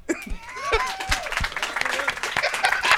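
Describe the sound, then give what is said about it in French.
Lively applause from an audience in a hall, given in answer to a question put to them, dense clapping that keeps going for several seconds, with scattered voices, whoops and laughter rising over it. “Hey, par applaudissement ici dans la salle, est-ce qu'il y en a qui ont des toilettes?”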